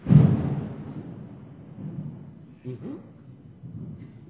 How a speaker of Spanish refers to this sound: Truenos, truenos.